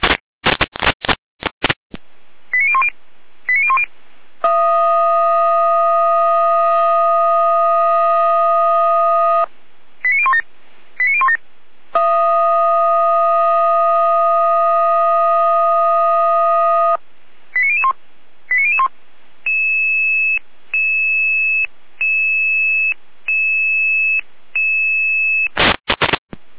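Radio alerting tones calling out a fire brigade to a storm call-out for fallen trees blocking the road between Batzdorf and Quittelsdorf: quick bursts of short beeps, then long steady multi-pitched tones, another burst, a second long tone, and finally a series of evenly spaced pulsed beeps, all loud and clear.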